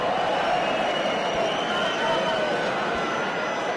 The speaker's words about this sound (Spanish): Gritos de Oles en la grada.